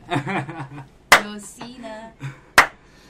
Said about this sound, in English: you got the slow clap.